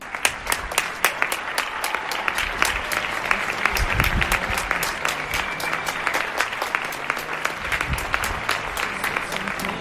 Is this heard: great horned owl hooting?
no